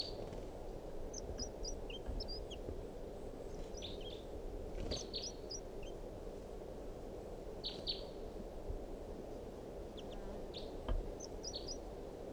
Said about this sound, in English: So recording is a wild bird again. Giving alarm calls.